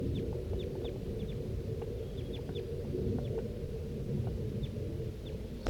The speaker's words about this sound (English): Start recording 7:36 a.m. now, and I hear that flock of crossbills. It's sort of to the south, down the hollow a little ways, and I think it could be heading this way. That was 4-3. Stop. The crossbill's flying over.